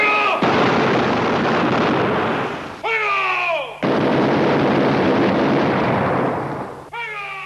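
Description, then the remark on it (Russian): Two long, loud volleys of dense, rapid gunfire in the final scene of the film Butch Cassidy and the Sundance Kid, as the two heroes run out into the shooting, roar almost continuously, separated by short pauses where falling, tonal cries or whistles sound before the shooting resumes. “отвечает Буч, и с этими словами они вылетают у закрытия навстречу оружейным залпам и застывают в незабываемом кадре, по которому хоть сейчас можно лепить монумент не героям, естественно, а фильму «Буч Кассиди и Санданс Кид».”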